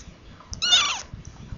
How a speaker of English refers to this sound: Kitten's mewing. Brownie. Young Brownie.